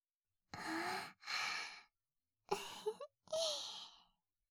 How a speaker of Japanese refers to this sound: あなたも大きなあくびしちゃって、私のが映っちゃった。